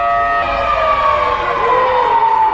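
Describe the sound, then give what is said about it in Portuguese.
A loud, sustained siren wails steadily, its tone gliding slowly downward, with low rumbling background noise and no voices; sounded in Mariana on 5 December, a month after the Fundão dam collapse, in memory of the victims, organised by town residents. “No dia 5 de dezembro, um mês depois do rompimento da barragem do Fundão, uma sirene tocou em memória às vítimas da tragédia de Mariana.”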